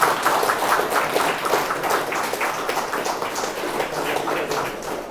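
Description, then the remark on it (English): A crowd applauds a speaker at the end of a talk after the questions, dense overlapping claps forming a continuous, fairly loud wash of sound that holds level for several seconds without any voices. “Give him a warm round of applause.”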